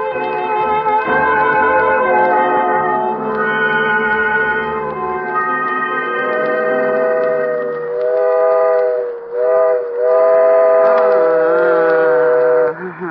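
A loud train whistle blows almost continuously for about thirteen seconds, a rich chord-like tone that dips, breaks and swells in pitch toward the end, over a faint low rumble.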